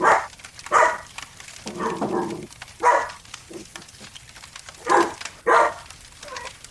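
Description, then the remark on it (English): A dog barks in loud, sharp bursts, roughly six barks spaced irregularly across several seconds, with a few softer whiny sounds between them. “Just story time and dogs barking.”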